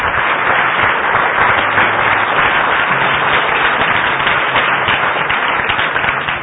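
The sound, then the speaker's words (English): A standing audience gives Jesus a clap offering, a dense, sustained wash of many hands clapping at once, loud, continuing without a break from start to finish. “Let's all stand and give Jesus a good clap offering.”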